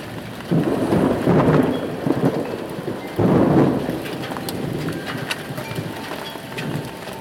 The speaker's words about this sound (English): Hopefully we're going to get more rain than this, and it's really cooled down.